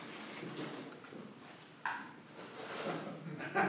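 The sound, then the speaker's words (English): A child rummages through the pantry cupboard getting peanut butter and eating from the jar, with steady rustling and shuffling and a couple of sharper clunks, like a cupboard or drawer, one midway through and one at the end. “Is that you eating peanut butter, Rowan? Did you get the jar yourself and start eating out of it?”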